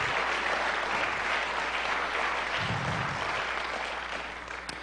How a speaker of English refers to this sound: And now to Jesus Christ, who alone is worthy to be praised, give him the biggest hand clap of worship tonight.